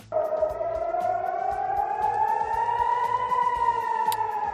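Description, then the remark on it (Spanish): Air raid sirens wail at night in Tel Aviv as missiles launched from Lebanon by Hezbollah cross the sky, in a long, slowly rising steady tone, loud and sustained for the whole stretch, with a rhythmic low thumping underneath and no voices. “No dejamos la crónica internacional porque esta noche han vuelto a sonar las sirenas antiaéreas en Tel Aviv.”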